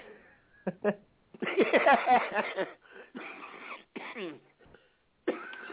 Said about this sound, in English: Oh, don't, it made me cough now.